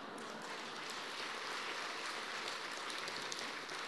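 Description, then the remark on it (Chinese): Vigorous audience applause, a dense, steady crackle of many hands clapping at an even loudness for the whole stretch, with no voices rising above it. “下面鼓掌鼓得很卖力的都是过去的美女。”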